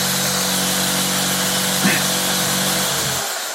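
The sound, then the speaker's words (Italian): A small battery-powered cordless drill whirs steadily and loudly for about three seconds while drilling holes, with a brief bump partway through, then its motor winds down and stops. “Bene, adesso, con un piccolo trapano a batteria che avete rubato dal garage di papà, facciamo qualche buco qui e lì.”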